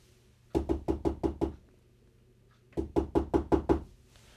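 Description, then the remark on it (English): A squirrel knocks at the door of Percy's hut on a snowy night: two quick bursts of knocking, six raps then six more after a short pause, each series crisp and evenly paced, with a low steady hum underneath. “Suddenly, Percy heard a tapping sound.”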